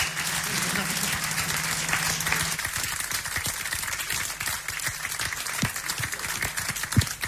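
An audience applauds a band of singer, drummer and bass player steadily throughout, a dense wash of many hands clapping with a few sharper, louder claps standing out near the end and a low hum briefly underneath at the start.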